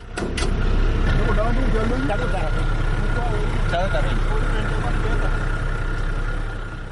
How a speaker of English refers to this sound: The sound of fishermen unloading a truck full of canoes at a Kwak village in Baydit Payam earlier this week.